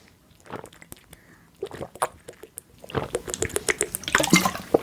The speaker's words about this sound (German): wir trinken alle mal einen Schluck